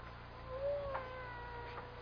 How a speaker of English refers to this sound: You know, it's funny. I hear a cat. He must be right in this room. But I don't see him.